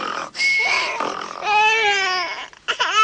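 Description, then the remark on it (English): A poor old mutt, woken up by snoring, whines and cries in a series of high, wavering, tonal wails that rise and fall, with short breaks between bursts and a nasal, sobbing quality throughout. “The poor old mutt's crying because you woke him up with your rotten snoring.”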